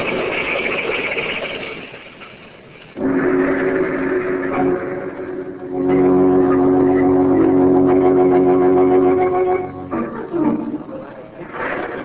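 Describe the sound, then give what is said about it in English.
On a stormy night on a main highway passing through a small village, a speeding car's engine roars up loud, holding a harsh, sustained drone for several seconds before breaking off abruptly into a rougher, quieter rumble as the car crashes. “Been an accident, officer.”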